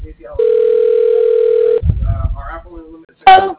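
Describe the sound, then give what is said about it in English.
A steady, unbroken telephone dial tone hums for over a second while a call is being placed, then cuts off into muffled handling noise and murmurs, ending with a short, bright electronic beep. “Yeah, making a call.”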